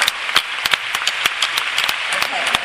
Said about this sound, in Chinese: 所以在座的各位也给自己一个最大的掌声好吗？